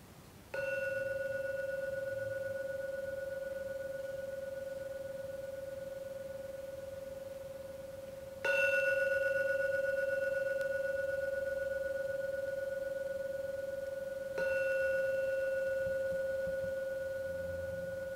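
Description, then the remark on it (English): A meditation gong is struck three times, each stroke blooming into a clear, steady ringing tone that hangs and slowly fades before the next. No voices, just the resonant strikes. “Oh, now ring the gong three times. Please listen to every sound from the gong.”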